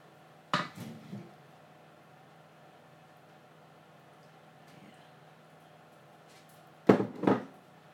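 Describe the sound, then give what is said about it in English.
Quite thick sauce being poured on and coaxed out with a wooden spoon: two brief bursts of scraping and knocking against the container, separated by a long quiet stretch, over a steady low hum. “I'll pour the sauce on, but I might need a bit of help from the wooden spoon because it's quite thick.”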